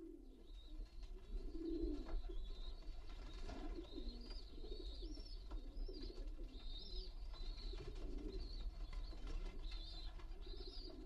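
Many pigeons coo together in a pigeon loft in a continuous, overlapping murmur, fairly loud, with soft rustling and occasional higher chirps mixed in.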